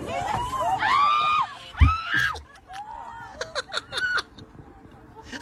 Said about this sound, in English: All right, but if you want to hear the screams of all these passengers, it's pretty good. We got nothing else to do on a Friday. Let's hear some screams on a Delta flight as a loose pigeon is snuck its way on board. Here we go.